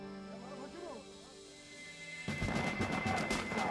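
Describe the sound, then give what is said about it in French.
After a quieter stretch with a faint voice-like tone, a sudden eruption of rapid gunfire breaks in: the first shots of a firefight between a commando and an Iraqi patrol by a river, a dense burst of overlapping sharp shots that keeps going to the end. “Les autres membres du commando se dispersent au son des premiers coups de feu.”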